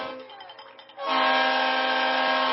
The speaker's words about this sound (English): Yeah, they're blowing that whistle. You can hear that train coming, man.